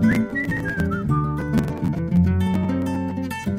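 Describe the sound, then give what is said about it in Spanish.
Someone whistles a wavering, gliding melody over a full band accompaniment, the whistle clear and prominent at the start before blending into the steady, loud music. “Yo silbo y contesto, chiflidito silbador”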